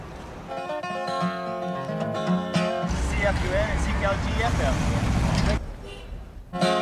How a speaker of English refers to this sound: What a truck.